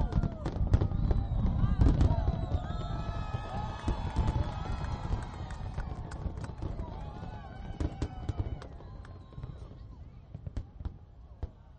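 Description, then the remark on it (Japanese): A dense climactic finale of New York Independence Day fireworks: rapid, overlapping booms and crackles pile up in a continuous barrage, with a crowd's voices cheering and murmuring underneath throughout. “さあここでもう一度最後にクライマックスの花火乱れ打ちをどうぞ。”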